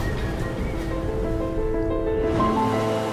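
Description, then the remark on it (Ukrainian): Gentle Caribbean Sea waves wash steadily onto a beach on the west coast of Barbados, a continuous soft rushing surf with no distinct breaks, moderately loud throughout. “Узбережжя там тихі, хвилі ніжні, а пісок як цукрова пудра.”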